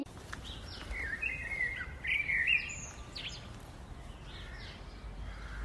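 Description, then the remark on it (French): Birds chirp and sing in the morning in a quiet outdoor setting, several short calls and trills scattered over a soft background hiss, with no voices. “Un très beau matin, j'entends les oiseaux chanter.”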